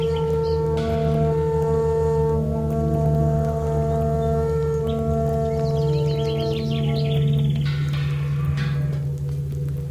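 Quick bird chirps and twittering come in bursts, busiest toward the middle, over a loud, steady droning tone that runs the whole time with no one speaking.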